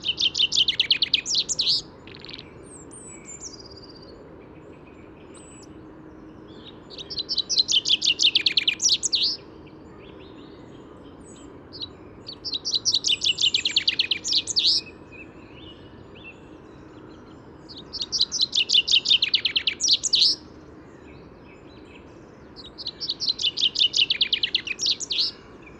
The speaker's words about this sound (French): Là, le pinson, par exemple, est à une quinzaine de mètres de distance.